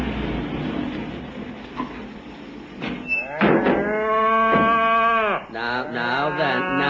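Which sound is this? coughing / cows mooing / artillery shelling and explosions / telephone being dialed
cows mooing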